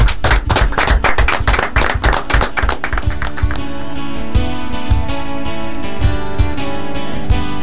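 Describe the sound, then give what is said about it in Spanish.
Loud applause closing the program Jóvenes en Acción, with a quick, steady clapping rhythm for about three seconds, then music with sustained tones takes over while a few claps continue underneath. “Con un aplauso terminamos.”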